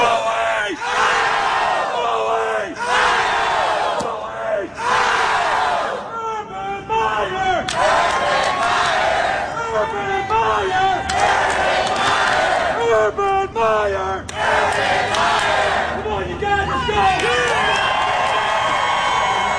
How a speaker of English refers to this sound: Quit yelling.